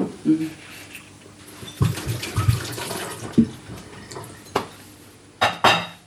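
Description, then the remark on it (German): Water runs and splashes amid sharp clinks and knocks of glassware and dishes, with a faint murmur of a voice in the background, as water is mixed into a too-sweet, syrupy ginger ale. “Also ich würde es, glaube ich, nochmal mit Wasser mischen.”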